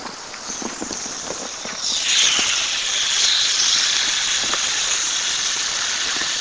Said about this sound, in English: Careful. On those, I would just water around them.